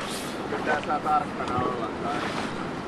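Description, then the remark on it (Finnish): A large salmon river with deep spots rushes steadily and loudly, a continuous broad roar of flowing water mixed with wind buffeting, while faint voices murmur briefly underneath. “Tää on iso joki, tää ei oo mikään puro.”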